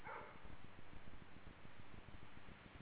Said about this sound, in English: I'm going to set the recorder farther away because they get a little loud on this, and the dog is pretty loud.